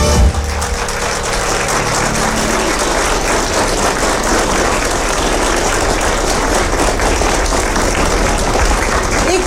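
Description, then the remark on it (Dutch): Sustained applause from a large audience on a live record, a dense steady wash of clapping that stays loud and even throughout, with no music or speech standing out above it. “Hartelijk voor uw spontaan applaus.”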